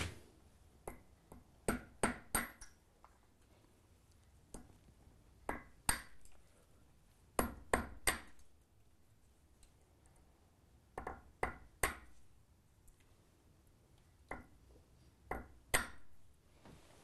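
Sharp metallic taps from a small hammer striking a tiny anvil used for mosaic work, coming in irregular clusters of two to four quick ringing hits separated by short pauses, with no voices.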